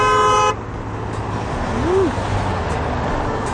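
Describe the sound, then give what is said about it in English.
At a busy intersection where people hold up a sign saying "honk if you love someone" for the Make DC Smile project, a loud car horn blasts for about half a second, then cuts out, leaving steady rumbling traffic noise with a brief, fainter tonal sweep partway through. No one speaks. “I decided to put on my bucket list, hold up a sign that said honk if you love someone at a busy intersection.”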